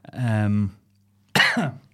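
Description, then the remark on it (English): A person makes two coughing sounds, a drawn-out, throaty hack followed by a short, sharp cough after a brief pause, fairly loud, seemingly imitating a cough. “Rosebery Coughing.”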